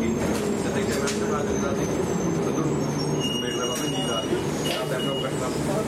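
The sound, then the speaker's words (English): Steady rumble and droning hum of a bus interior, constant and fairly loud throughout, with a muffled voice talking indistinctly in the background. “On the bus.”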